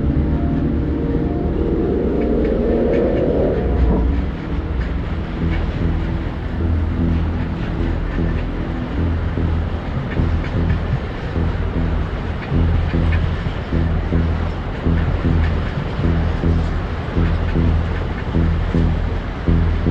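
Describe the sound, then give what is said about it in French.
A train rumbles past opposite the Feyzin refinery and the A7 motorway, a loud continuous roar of wheels and engine with a rising whine at the start, steady throughout with no voices. “Aujourd'hui, deuxième épisode, il y a un train qui passe.”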